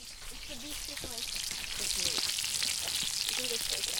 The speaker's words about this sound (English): And a fireplace right in the middle where we cook all of our food while we're making lunch. Ooh, what's that sizzling?